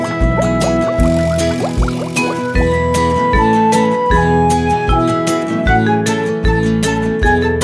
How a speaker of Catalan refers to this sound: Un peixet en el fons de l'estany. Vinga a fer bombolles per anar passant.